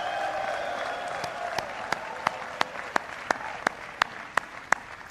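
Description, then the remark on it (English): At a Spelman graduation ceremony, graduates applaud their families: a steady wash of crowd clapping with about a dozen loud, sharp claps ringing out in an even, quick rhythm over the last four seconds. “Graduates, give a big round of applause to your family for everything that they've done for you.”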